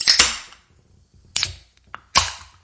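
A stiff crown cork being pried off a returnable glass bottle: a few sharp, bright metallic snaps spaced out over a couple of seconds, with one faint tick before the last loud pop. No talking.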